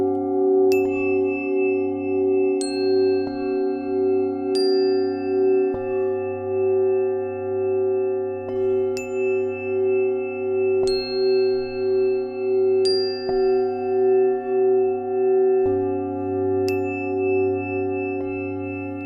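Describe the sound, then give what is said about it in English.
Meditation bells ring in overlapping layers, struck about a dozen times at uneven intervals. Each strike blooms into a sustained, gently wavering tone over a low, pulsing hum, with no voices. “At the same time, you're having equanimity with the sound by allowing each bell tone to come and go naturally without pushing or pulling on your sensory experience.”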